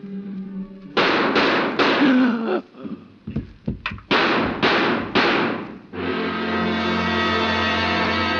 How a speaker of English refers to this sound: I hear gunfire.